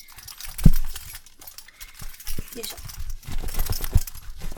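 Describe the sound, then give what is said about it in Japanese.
Metal buckles on a leg restraint belt jingle and clink irregularly as it is handled, with a few sharper knocks mixed in, while a person grunts a short word. “ベルトですね。高速ベルト。足掛けを拘束するベルトとなっております。”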